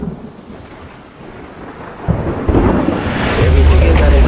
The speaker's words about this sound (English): start picking up and the storm is just making landfall. Everybody sit tight as this is something we may not have seen before.